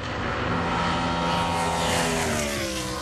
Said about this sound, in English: That's a NASCAR. It's a big V8. It's like a big displacement V8 car. Is it a Shelby GT500? It's not identified, actually. It's a BMW V8, though.